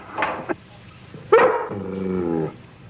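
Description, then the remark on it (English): A dog named Jenny barks, a couple of short rough barks followed by a sharper, louder bark that stretches into a drawn-out whining howl. “Watch your dog.”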